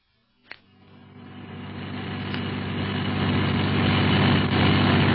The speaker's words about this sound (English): They drive fast here. I'd rather be up in the air, Clint. It's a lot safer. Hey, driver, slow down!